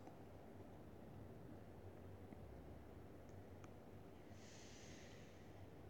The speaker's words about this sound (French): J'inspire. Et j'expire en relâchant mon corps.